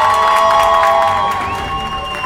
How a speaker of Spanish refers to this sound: Un aplauso, por favor.